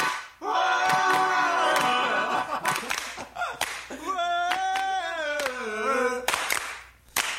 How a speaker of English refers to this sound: Singing, just the hand claps.